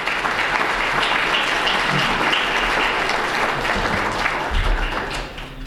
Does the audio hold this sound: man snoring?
no